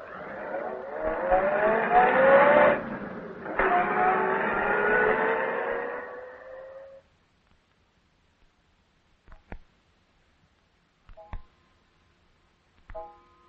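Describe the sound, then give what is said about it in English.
A car engine revs and accelerates away, its rising whine lasting about seven seconds before dying out, followed by a few faint clicks and knocks in near silence. “Get him into the car quickly.”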